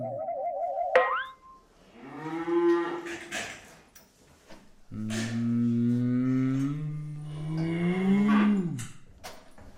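A cow moos several times in long, drawn-out, harmonically rich calls, loud, after a brief warbling chime at the start; no talking.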